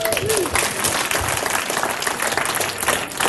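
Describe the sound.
Steady applause from an audience, a dense wash of many hands clapping at a fairly loud, even level throughout, with faint voices mixed in.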